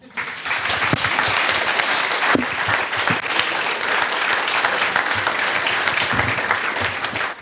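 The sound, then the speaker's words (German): Steady, sustained applause from an audience fills the whole stretch, a dense wash of many hands clapping at an even, fairly loud level with no voices standing out. “Ja, dafür nochmal einen Applaus.”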